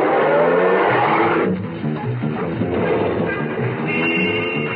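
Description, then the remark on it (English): A taxi's engine runs loud, its pitch climbing as the taxi pulls away from the corner of 59th Street and Madison Avenue, headed for Penn Station, and accelerates steadily, with a broad rumble of road noise and no voices. “At the corner of Madison, I flagged down a taxi and got in.”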